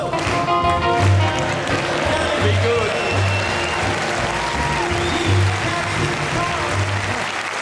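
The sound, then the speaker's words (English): Sustained audience applause after a live song performance fills the space, a dense wash of many hands clapping at steady loudness, with some crowd murmur mixed in throughout. “Thank you for giving me the clap.”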